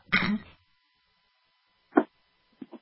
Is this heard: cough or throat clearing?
yes